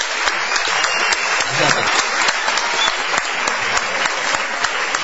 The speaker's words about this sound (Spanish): Vamos a decir que está aquí en la sala, está Santiago Segura, por allí. Creo. Vamos a aplaudir a Santiago Segura. Bienvenido, muchas gracias.